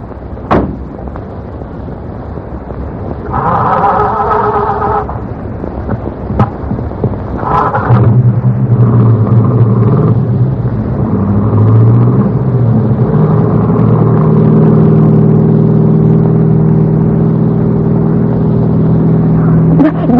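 A police car engine rumbles steadily, its low drone rising and thickening as the car revs and pulls along, stopping in front of Taggart's Cut-Rate Pharmacy, with a few sharp clunks and knocks over the motor noise.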